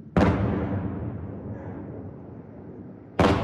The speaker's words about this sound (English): Before daylight, the buzzing of drones can be heard above the city, followed by loud explosions as they were taken down by air defense systems.